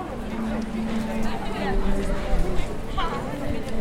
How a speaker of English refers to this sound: In Lincoln, I can hear lively chatter.